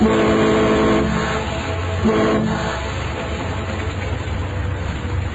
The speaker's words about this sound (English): I leaned on the horn. It didn't do any good.